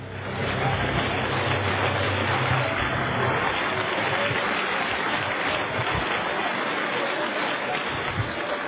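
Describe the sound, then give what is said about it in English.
An audience claps hands steadily for several seconds in praise to the Lord, a dense, sustained wash of applause with no talking over it. “Would you clap your hands to the Lord and give Him some praise right now?”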